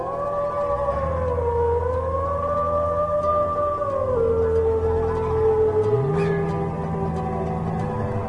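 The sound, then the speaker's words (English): Several wolves howl together in long, overlapping wails that slowly rise and fall, sustained steadily throughout without pause, fairly loud, with no voices present. “Wolves were not the only problems the Ingalls family faced.”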